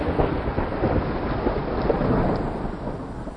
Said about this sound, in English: There was a clap of thunder and a flash of light, followed by a series of gasps.